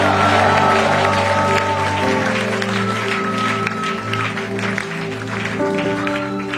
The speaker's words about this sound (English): Can you clap your hand and give him a shout of praise?